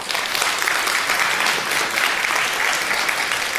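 Sustained applause from an audience welcoming a speaker for a talk on data protection in associations, a dense, steady wash of clapping hands that holds at an even loudness throughout without any voices standing out.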